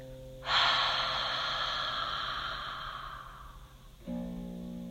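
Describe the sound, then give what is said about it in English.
A single long, forceful breathy exhale with an open "ha" quality, released after a held breath during a breathing exercise, starts abruptly and trails off over several seconds, fairly loud against a low steady hum, with no talking. “And when you're ready, exhale with a ha.”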